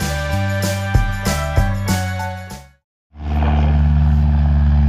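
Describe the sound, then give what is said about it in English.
A small propeller plane's engine drones steadily and loudly at Princeton Airport, a non-commercial airport, on an overcast day, a constant buzzing roar that follows a short musical phrase and a brief moment of silence. “We're at the Princeton airport on an overcast day. That's beautiful. That's waiting for planes to take off and land.”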